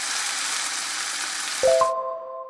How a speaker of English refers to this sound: A sizzler comes from the word sizzle, which we use to describe the sound of something frying in a very hot pan. The word sizzle sounds a bit like the actual noise of the food cooking, doesn't it?